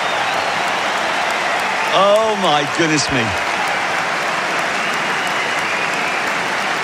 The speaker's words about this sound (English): Well, the crowd's reaction says it all. Most of them are standing up to applaud.